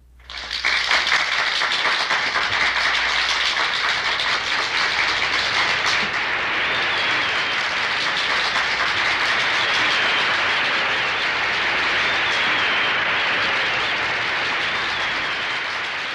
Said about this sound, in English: Roughly 1 minute of applause closes out side one.